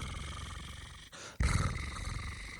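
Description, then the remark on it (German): A person imitates a cat's purr, as done when reading cat stories to children, with a low, rough, rumbling voice and a rolling R, two sustained growly stretches split by a brief pause, the second louder, sounding somewhat like a dog's growl. “Dann mache ich das Schnurrgeräusch immer so so nach.”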